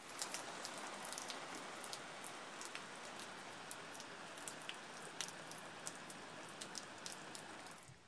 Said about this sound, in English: The sky is pitch black. The garden's waterlogged. Just listen to that rain.